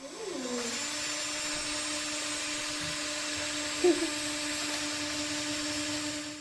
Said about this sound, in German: Doch lieber bohren.